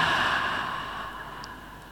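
An 'ocean breath' breathing exercise: a long, steady exhale through the mouth, a soft rushing hiss like ocean surf that slowly fades over about two seconds, with no talking.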